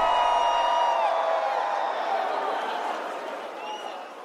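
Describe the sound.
A big concert crowd roars and cheers, a dense wash of voices topped by shrill screams and whoops, holding steady before gradually tapering off over a few seconds.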